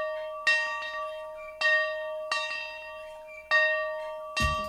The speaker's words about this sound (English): The dairy farm families of AMPI are excited to ring the dinner bell and share their award-winning butter and cheese with you.